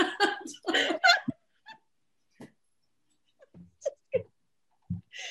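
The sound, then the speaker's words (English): A dog whines in a run of high, strained cries, then falls to scattered brief whimpers and soft shuffling scrapes of pawing separated by quiet gaps. “Oh my gosh, dog. stop it.”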